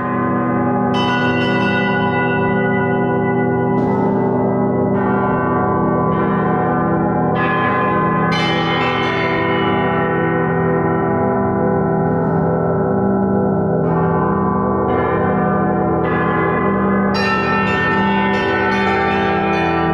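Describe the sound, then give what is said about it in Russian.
A struck alloy close to bell metal, a bell bronze of slightly different composition, rings loudly and continuously, struck again and again at irregular intervals, each bright strike layering over a rich, sustained humming resonance with no voices. “Это близкий к колокольному металлу, несколько другого состава, но его можно назвать колокольной бронзой.”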